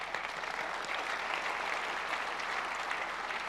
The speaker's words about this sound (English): We have a perf team, yes. 3.4 million requests per second. Per second. But that's just hello. Oh, yeah, clap for that.